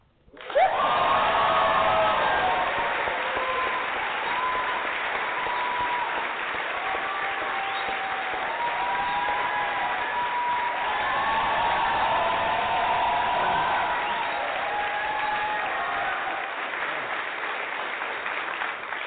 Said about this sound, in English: we can clap for all the celebrities that already got it that we don't even know, we can clap for you